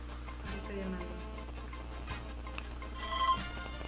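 A cell phone rings faintly as a call is placed to a specific number to check that it received a text message, its electronic tone rising briefly toward the end over a steady low hum and quiet background murmur.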